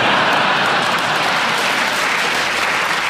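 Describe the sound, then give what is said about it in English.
Steady audience laughter and applause after a panelist's joke, a dense, loud wash of many hands clapping with no pauses and no voices standing out. “Paul, very clever and a well-received round of laughter and applause.”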